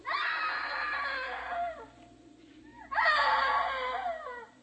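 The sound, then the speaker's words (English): A woman lets out two long, loud screams separated by a brief pause, each one shrill and wavering, sounding raw with no other voices present. “Hey, screaming woman!”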